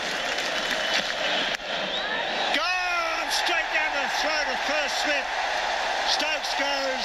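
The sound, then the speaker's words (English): A big cricket stadium crowd at the 2013 Boxing Day Test at the G roars steadily, then starts clapping and chanting behind bowler Mitch Johnson partway through, building into repeated, evenly spaced surges of cheering. “The crowd will get behind him. You can hear them starting to clap.”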